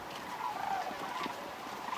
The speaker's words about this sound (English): So on a cold day last fall, we went with him to watch the cranes gather on a small island in the Wisconsin River before they headed south. As always with cranes, you hear them way before you see them.